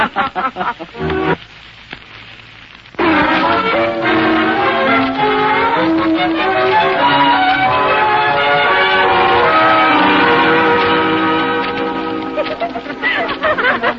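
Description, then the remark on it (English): A school's second bell rings loudly and continuously for about ten seconds, starting after a brief murmur of voices and a short pause, then tapering off slightly at the end. “There goes the second bell.”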